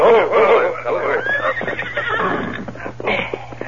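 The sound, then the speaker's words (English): A horse whinnies loudly at the start, followed by shuffling hoofbeats and snorts as three riders rein their horses to a halt in front of the Derrick ranch house, over a faint steady hum. “Soon the three men reined up in front of the Derrick ranch house.”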